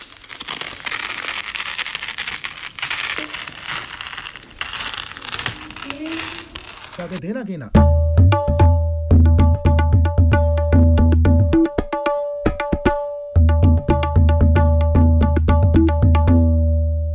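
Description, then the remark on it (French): Rustling and ripping of a damaged sheet of paper being torn, a dense crackly sound lasting several seconds, followed by a bright musical jingle. “Déchirer.”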